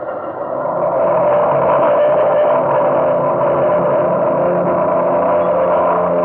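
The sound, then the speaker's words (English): A loud, steady droning roar of the engines of the China Clipper, a silver flying boat, taking off from the water at San Francisco on the first trans-Pacific airmail flight. It swells up within the first second, then holds a dense, rumbling tone with no voices. “Silver flying boat noses through the water, rises and sweeps off on the first Trans-Pacific airmail flight.”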